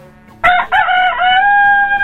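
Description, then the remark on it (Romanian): A rooster crows loudly, one strong drawn-out cock-a-doodle-doo with a bright, strained tone that holds steady to the end, with no one talking. “Sigur, n-aveați cum să greșiți, este un cocoș.”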